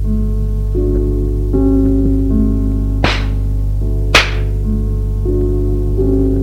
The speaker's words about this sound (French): Il prend le plateau de verre qu'il met sur la table et lui donne une gifle.